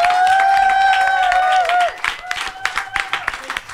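An audience bursts into applause, with brisk, dense clapping and a long, high sustained whoop or whistle ringing over the first half before the clapping continues on its own.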